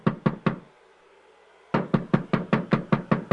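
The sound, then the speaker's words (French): Three sharp knocks on a door, a brief pause, then a longer run of about nine steady, evenly spaced knocks, loud with no voices. “Y a-t-il une personne à la porte?”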